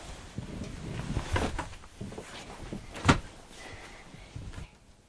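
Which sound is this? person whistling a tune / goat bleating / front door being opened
front door being opened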